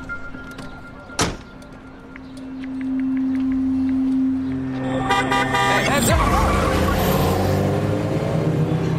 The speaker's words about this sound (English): A car passes near her while she's distracted by her phone.